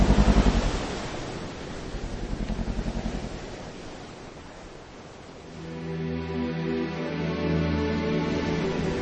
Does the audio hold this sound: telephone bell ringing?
no